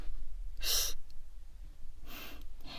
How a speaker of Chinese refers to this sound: 在图书馆睡觉就算了，可是你不能打呼噜呀。